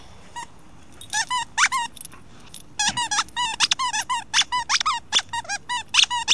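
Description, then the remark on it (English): A dog, Atticus, chomps on a hot-dog-shaped squeaky toy made in Taiwan or China in a garden, squeezing out rapid bursts of high, wheezy squeaks in an irregular rhythm, some single, some in quick clusters, with no one talking. “I just thought I'd record it and share the joy of a dog chewing down on some kind of made in Taiwan / China type apparatus.”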